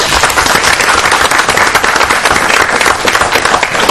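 The audience at a county Quorum Court meeting applauds a former representative's years of service, a dense, steady patter of many hands clapping at once, sustained and fairly loud for the whole stretch with no talking over it.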